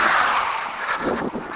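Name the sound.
cars passing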